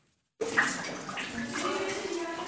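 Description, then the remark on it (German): Water drips and trickles steadily inside the ice grotto of the Rhone Glacier in Switzerland, a few hundred metres from the Furka Pass road; a continuous splashing wash that starts abruptly after a brief silence and carries on at an even level. “Es tropft in der Eisgrotte am Rhonegletscher, nur ein paar hundert Meter entfernt von der Furker Passstraße.”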